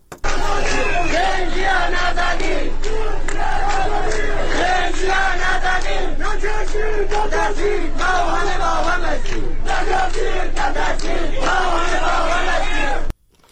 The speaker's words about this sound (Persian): ویدیوهای دریافتی نشان می‌دهد از بامداد دوشنبه به ویژه در شهر دیواندره استان کردستان تجمع بزرگ اعتراضی جریان دارد.